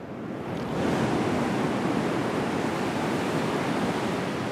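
Steady surf washes onto a beach under the August sun in a continuous broad roar, swelling slightly in the first second and then holding even and fairly loud, with no voices.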